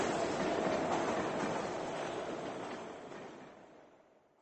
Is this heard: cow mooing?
no